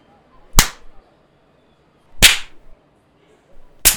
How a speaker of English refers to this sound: It looks like he's enjoying having his sad excuse for a dick slapped around like this.